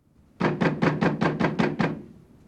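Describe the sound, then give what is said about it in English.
Eight quick, evenly spaced bangs on a room door in a steady run, loud, with a brief echo trailing off after the last one and no voices. “Oh, I've been banging on the door here, you know?”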